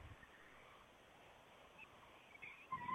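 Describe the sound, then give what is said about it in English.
About 10 coyotes in a 24-acre park right behind a backyard howl and yip faintly in the distance over an outdoor hiss. The high wavering calls grow a little more noticeable toward the end. No one speaks. “There's about 10 coyotes over in the distance.”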